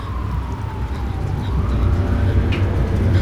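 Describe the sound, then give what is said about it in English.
A distant police siren wails in a slow rising and falling sweep, faint but steady above a low rumble of traffic, growing slightly louder toward the end. “Attempting to appear normal, Deborah tried to walk at a normal pace, but the sirens in the distance increased her paranoia.”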